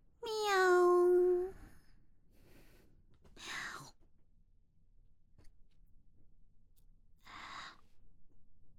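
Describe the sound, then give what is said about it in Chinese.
A person imitates a cat during an acting audition for a director, opening with a drawn-out meow-like cry, then making two short, breathy licking noises spaced a few seconds apart, fairly quiet. “导演，我连猫咪舔东西的样子都学出来了，这回应该能过了吧？”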